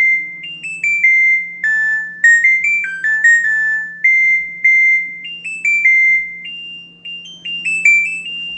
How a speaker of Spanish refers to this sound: Esta es la melodía que hace mi nueva lavadora cuando acaba. Sí, sí, increíble.